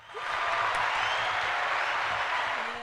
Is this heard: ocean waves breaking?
no